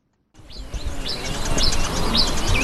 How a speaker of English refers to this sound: Only birds and insects break the silence at a gold mining site in the eastern region of Ghana, at the foot of the Atewa Forest Reserve.